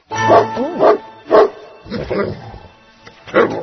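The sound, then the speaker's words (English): A playful puppy barks about five times in an uneven rhythm, loud, high-pitched yaps with a brief whiny, sliding yelp between them and no talking over it. “What a dear puppy he was, too. Lucky he just wanted to play.”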